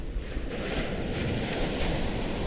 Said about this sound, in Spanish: Yo soy la voz del Río Verde. Mi corriente baja desde los valles de Oaxaca y recorre toda la Sierra Sur hasta llegar al Océano Pacífico.